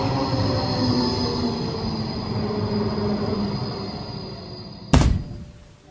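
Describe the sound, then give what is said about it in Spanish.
A tram on the Gran Vía de las Cortes Catalanas, which runs a man over, rumbles past with a steady, high-pitched squeal of wheels on rails, ending abruptly in one sudden loud bang that quickly fades. “En la Gran Vía de las Cortes Catalanas fue atropellado por un tranvía.”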